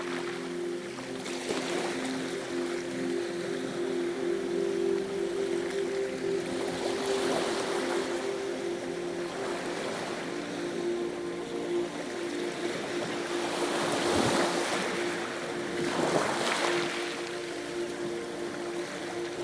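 Gentle harbor water laps and sloshes around fishing boats anchored in the small harbor basin of Hangaroa, with soft swells rising every few seconds over a steady low hum. No voices.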